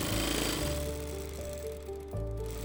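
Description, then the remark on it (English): A sewing machine runs back and forth as a woman feeds fabric through it, whirring steadily with a droning motor hum, its pitch and speed shifting a couple of times as it runs continuously without any voices. “She's hunched forwards, surrounded by garments, a sewing machine thundering back and forth as she delicately feeds the fabric through.”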